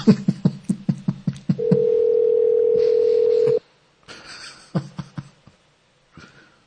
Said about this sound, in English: answer the phone.